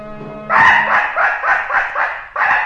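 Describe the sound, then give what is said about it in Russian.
A hunting dog, Muradik, barks loudly at the hunters in a quick, steady run of about six sharp barks, with a low tonal hum just before the barking starts and no one talking. “Лает на нас.”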